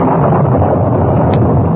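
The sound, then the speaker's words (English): Strong storm wind roars in the foothills in a dense, steady rush of noise, loud and unbroken throughout, with no voices or other distinct sounds. “By the time they reached the horses, wind began to blow strongly and lightning crackled around them.”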